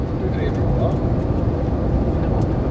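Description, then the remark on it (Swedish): A steady, low airplane cabin engine drone fills the whole recording at an even, moderately loud level, with faint indistinct voices murmuring beneath it. “Så här fint har man det bara på flygplanet en gång om året.”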